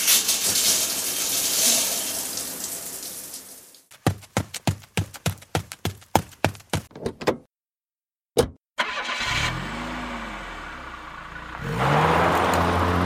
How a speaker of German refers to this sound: So, ich drück einfach ordentlich aufs Gas, dann schaffe ich es halbwegs pünktlich.